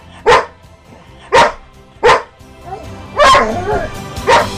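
A dog barks five times in sharp, loud bursts, spaced about a second apart, with a softer whine-like yelp slipping in between the later barks.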